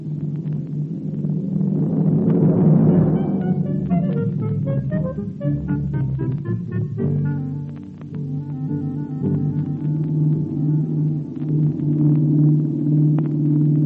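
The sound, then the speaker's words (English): A car speeds along a road in thick fog, its engine a steady, loud low rumble and hum that throbs continuously throughout, with whining higher tones rising and falling above it. No one speaks. “He knows these roads, and he knows his car.”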